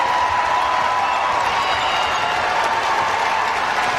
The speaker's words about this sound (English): This nearly sold out crowd at Reynolds Coliseum stands and cheers as NC State earns its 17th consecutive home win and avenges their most recent loss here in Raleigh.